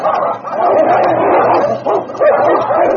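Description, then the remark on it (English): Two huskies, King and Pooka, bark and yelp in a loud, frantic fight, rolling over and over and each seeking the other's throat, the snarls and sharp cries overlapping continuously with no pauses. “Time and again, the two great dogs came to grips, then rolling over and over, each seeking the other's throat.”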